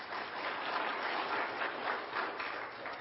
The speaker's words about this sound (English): What's the pleasure of the body? I need a second. I'll take that. All in favor, clap your hands just real quickly.